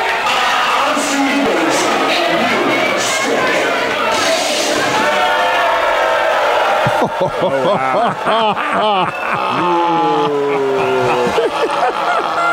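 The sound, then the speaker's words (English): A loud, dense roar of an arena crowd screaming and cheering back at a performer who walks out gesturing, screaming and clapping at them, steady at first, then breaking into rising and falling yells and whoops from many voices. “gesturing with his hands, screaming at the crowd, clapping at him. They are screaming yeah, back.”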